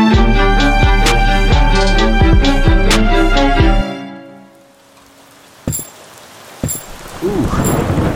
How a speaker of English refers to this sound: Oh, it sure is raining out here.